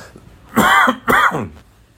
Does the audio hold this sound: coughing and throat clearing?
yes